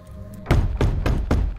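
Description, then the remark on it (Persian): Four heavy knocks on a wooden door, evenly spaced and loud, each a deep thudding hit with a short decay, after a brief quiet lead-in. “بهتر نیست نگهبانا رو صدا کنیم یا فکر میکنی در زدن کافیه؟”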